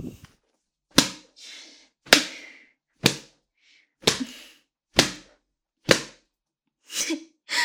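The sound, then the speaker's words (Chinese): Sharp whip cracks land one after another, about seven loud lashes of a whip striking a person, spaced roughly a second apart, with faint breathy sounds in the gaps and no talking. “被你的母上大人这样用鞭子抽打着下面，爽吗？”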